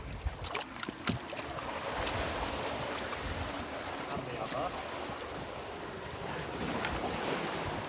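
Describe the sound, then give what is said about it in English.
Sea waves wash and surge steadily, with gusts of wind buffeting the microphone. A few brief splashes near the start are walking boots being dunked into the sea at the most westerly point of a pilgrimage, before a hike. “We've found a spot where we can dunk our boots, so this is the most westerly point of the pilgrimage.”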